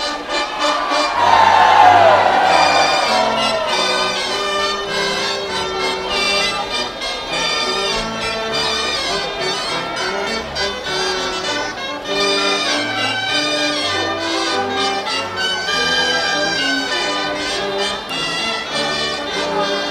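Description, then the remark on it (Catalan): A large crowd at the procession dance of Sant Bartomeu shrieks and cheers continuously for the whole stretch. It is a loud, dense wall of high-pitched voices that swells early on and stays steady without letting up. “Aquests esgarips també feia temps que no s'escoltaven.”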